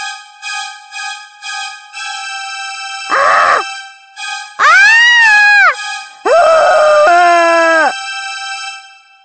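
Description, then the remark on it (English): Loud, drawn-out wailing screams from behind a nurse's closed door, several anguished cries that rise and fall in pitch, sounding over a steady droning tone with no talking. “The horrible screams came from behind Nurse Needle's closed door.”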